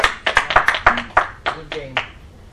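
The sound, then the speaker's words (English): A short round of applause for the players after a game, from what sounds like just a few people, with sharp, fairly loud claps in an uneven rhythm. A faint voice may murmur underneath. “So a round of applause for you.”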